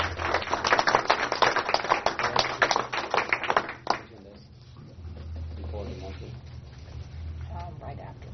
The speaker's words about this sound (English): Let's do a round of applause for all those villages, you know, even though they're not present here, but I think they deserve a round of applause from all of us.